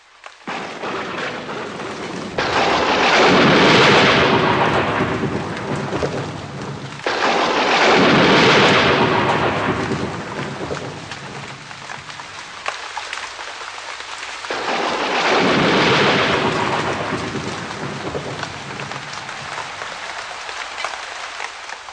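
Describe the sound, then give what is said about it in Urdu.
Heavy rain pours steadily at night, with three long rolling rumbles of thunder swelling loud and fading, no voices present. “موسم مختلف تھا، خوب بارش ہو رہی تھی.”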